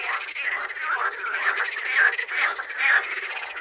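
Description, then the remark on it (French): A dense chorus of green frogs croaking steadily at the ballast pits of Barjouville, overlapping calls forming a continuous pulsing din at moderate loudness, with a few louder croaks standing out. No voices. “nous avons découvert des larves de demoiselles, des larves de chironomes, des larves de libellules, une sangsue, des grenouilles vertes”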